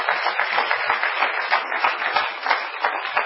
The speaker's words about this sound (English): Clap your hands to God if you believe we can do that.